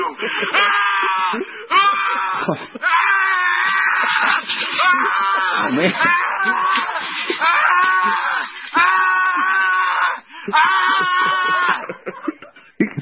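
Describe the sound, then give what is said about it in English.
A man, presented as John Bolton, screams and wails almost nonstop, loud, in strained, drawn-out bursts with only brief gasps between them. “He had to take a break to keep screaming.”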